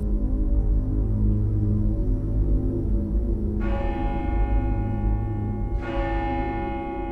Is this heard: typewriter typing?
no